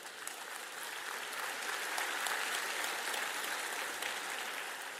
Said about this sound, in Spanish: Alguien diga amén, un aplauso al Señor.